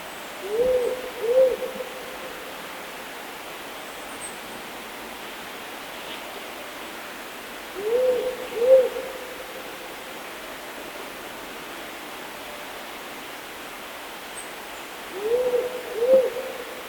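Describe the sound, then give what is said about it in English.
A powerful owl gives deep, slow double hoots, three pairs spaced about seven seconds apart, over a steady hiss of background noise, with no voices. “Powerful owls are incredible predators and will take a variety of prey items, including greater gliders, brush-tailed possums, ring-tailed possums, and sugar gliders.”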